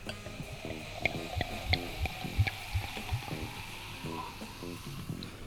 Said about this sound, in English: Sometimes pet nats are like crazy fizzy. Crazy fizzy. This isn't. You can hold it up to the microphone if you want while you're filling the glass.